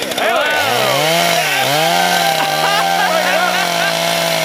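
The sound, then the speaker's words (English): A loud, continuous, rough chainsaw-like buzzing revs up and wavers in pitch for several seconds. It sounds like a voice imitating a chainsaw rather than a real engine, presented as an audio chainsaw given as a present. “Nobody has ever given me an audio chainsaw before.”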